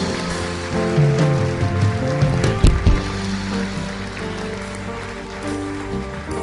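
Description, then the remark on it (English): A crowd applauds steadily for several seconds, a dense wash of clapping that swells slightly, then keeps going at an even level, with no voices rising above it. “Come on, I want you to give all these people a round of applause.”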